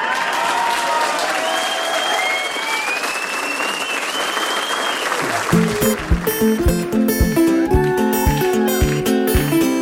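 An audience applauds with dense, steady clapping for about five seconds, with a few faint whistles over it; then the applause thins out as a plucked, rhythmic melody starts up.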